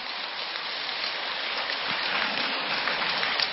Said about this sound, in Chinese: 他一想啊，你看师父厉害吧，我刚刚一讲，大家为了很多没听懂的，为了装出来自己听懂了，又拼命的鼓掌了。